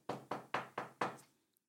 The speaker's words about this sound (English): You heading your way to the door and you take a knock on it.